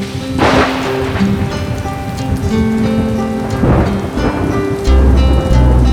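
A heavy downpour hammers steadily on surfaces, dense and loud throughout, while deep thunder rumbles low beneath it and swells near the end.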